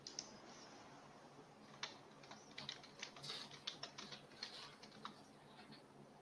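Quiet, irregular clicking of keys on a computer keyboard, a steady stream of soft taps with occasional sharper clacks, heard fairly close with no talking.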